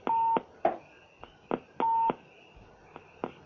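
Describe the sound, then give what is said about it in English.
A telephone gives off a series of electronic beeps, two longer steady tones mixed with several short chirps at an uneven pace, clear with no talking. “Or maybe it sounds kind of like a low battery from a telephone.”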